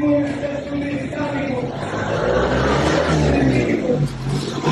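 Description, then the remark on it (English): A car engine rumbles and revs as it drives along a busy street in a Christian neighborhood of Damascus, Syria, with steady traffic noise throughout and indistinct voices in the background. “And in Christian neighborhoods in Damascus, some cars were filmed driving through the streets with preachers advocating for Islam over loudspeakers.”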